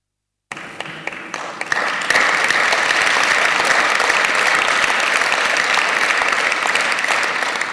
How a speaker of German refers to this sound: Ja, vielen Dank für den Applaus, der gehört nämlich wirklich dahin.